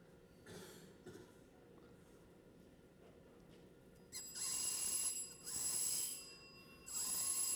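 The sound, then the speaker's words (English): A metal bell rings with a harsh, buzzing shriek as dry ice is pressed against it, in three loud, sustained bursts after a few soft, quiet touches, with no talking. “(Laughs) Why does dry ice make a bell ring?”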